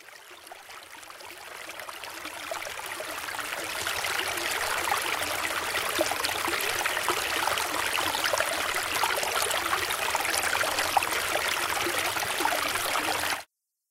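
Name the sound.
river stream flowing water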